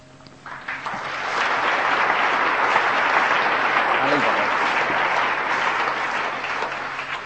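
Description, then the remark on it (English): Sustained audience applause builds quickly in the first second, then holds as a dense, steady wash of many hands clapping for several seconds before easing slightly at the end. “You might want to take your clap back when you put it in.”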